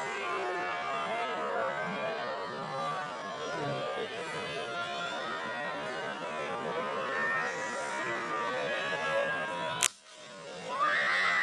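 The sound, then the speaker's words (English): Recorded footage of a dense, agitated crowd with shouting and high screams, with the Secret Service present, then a single sharp bullet shot crack near the end, a split-second hush, and the crowd noise surging back louder. “And screaming. Did you hear that? Yeah. And that bullet doesn't have the same sound profile.”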